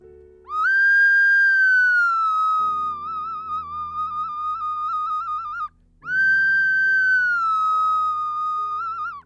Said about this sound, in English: I play a little piece of a Spanish clay whistle. And you may or may not hear the Spanish clay whistle, the ocarina. If you hear the whistle, it means you haven't heard an advert. Here we go.